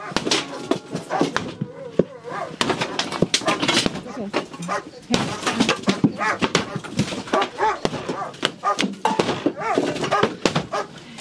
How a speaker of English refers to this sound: Breaking down the door. Get out here. They're breaking down the door.